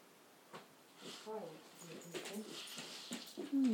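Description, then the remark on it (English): A dog whines and whimpers in a few short, high, wavering bursts, ending in a louder drawn-out whine. “What are you up to, dog?”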